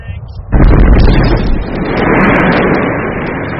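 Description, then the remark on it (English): A 1-kilogram pentite explosive charge detonating on ice in Antarctica, set off by the British Antarctic Survey to generate a shockwave and record echoes from beneath the ice: after a brief low murmur, one sudden loud blast hits, then a broad, roaring rumble that stays strong and rolls on for about three seconds. “We're going to use this to generate a shockwave and record the echoes that come back from underneath the ice.”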